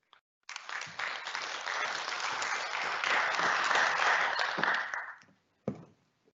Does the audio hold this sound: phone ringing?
no